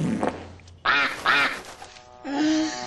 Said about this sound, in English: Please tell me that was the duck.